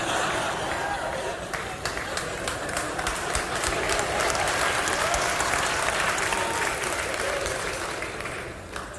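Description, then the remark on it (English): Sustained applause from a sizable crowd, dense clapping filling the whole stretch at a steady, fairly loud level, with a faint murmur of voices mixed in. “Are y'all clapping about church or the fried chicken?”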